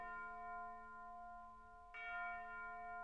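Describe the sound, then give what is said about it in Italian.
A nearby church bell announcing a rite rings with a deep, humming tone; one stroke lingers and fades before a second strike lands and blooms into a rich, sustained metallic hum. No voices. “O ciel, la squilla vicina in rito annunzia.”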